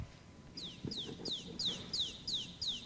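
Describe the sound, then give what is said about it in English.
A baby chick peeps about seven times in a steady, rapid series of high, downward-sliding cheeps, clear, with faint low bumps and rustling underneath. “A little baby chick, that's right.”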